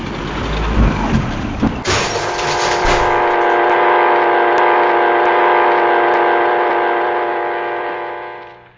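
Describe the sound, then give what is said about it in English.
A loud heavy truck and trailer roars and grinds its gears with a couple of crashing impacts as it crashes down onto a car, then gives way to a long, steady, blaring drone that fades at the end. No one speaks. “Kavanaugh's truck, in a horrible roaring and grinding of gears, crashed down on them”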